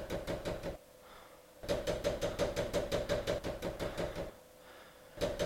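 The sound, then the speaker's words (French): Loud, rapid knocking on a door early in the morning before daylight, coming in insistent bursts of quick, hard raps separated by brief pauses, with no voices. “Mais arrêtez de taper si fort !”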